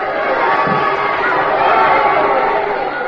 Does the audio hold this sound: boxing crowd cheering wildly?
yes